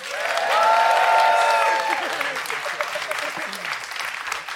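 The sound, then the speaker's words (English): An audience breaks into sustained applause to vote for the side it thinks made the best case, loud and dense from the start, with a few voices whooping over it early on before the clapping settles and carries on steadily. “I'd like you to applaud now.”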